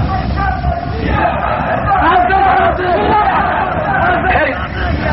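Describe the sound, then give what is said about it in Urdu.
A crowd of voices shouts a slogan chant together, loud and continuous for several seconds, a dense roar of many people calling out at once. “میں نے تو ابھی آپ کو اجازت نعرے کی نہیں دی, وعدہ کیا آپ میں نے آپ سے عرض کیا کہ نعرے کا وقت آئے گا,”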